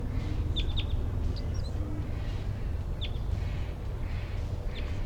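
A wild bird gives scattered bursts of quick, high chittering chirps, some in pairs, over a steady low rumble of background noise.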